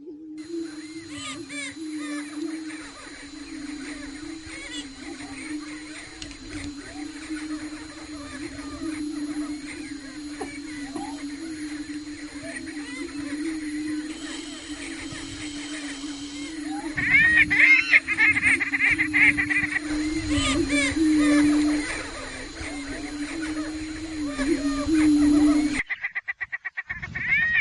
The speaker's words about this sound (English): So follow Darlene Ady and Arlene Brinkmeyer's advice and head on down to Kellerton to hear and see prairie chickens. It's a good show and well worth it.